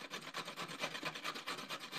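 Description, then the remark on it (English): Steady, rhythmic rasping of a carrot being grated, with quick scraping strokes repeating about four times a second, bright and gritty, with no talking. “I'm rubbing, grating it, yeah.”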